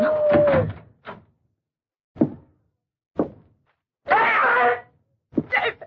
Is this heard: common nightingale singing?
no